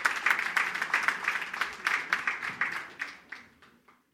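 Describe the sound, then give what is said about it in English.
An audience applauds the Revolution Kids Church children as they are dismissed to go up to their classes, a dense wash of many hands clapping that thins out and fades to a few scattered claps by the end. “This time we're going to dismiss our kids, Revolution Kids Church, so let's applaud them on as they go up to their classes.”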